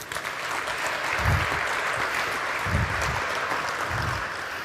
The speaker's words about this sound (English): Please welcome them with a warm round of applause.